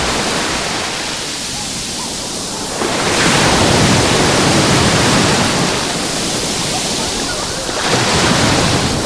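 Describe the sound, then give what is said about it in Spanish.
Sea waves break on the beach of La Charca in Salobreña under a light westerly wind, in loud, broad washes of surf, swelling around three seconds and again near eight, with a steady hiss of foam between crests and no voices. “Así suena hoy el mar, la playa de Salobreña.”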